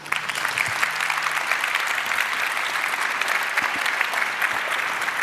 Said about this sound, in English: And yeah, please welcome them too with a big applause. Thank you.